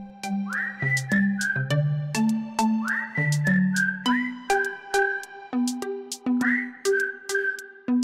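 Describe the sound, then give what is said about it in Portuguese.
A music intro in which a bright whistled melody with sliding notes plays over a steady bass line and plucked accompaniment, moderately loud, with no singing or talking. “Ouvimos … no tema ….”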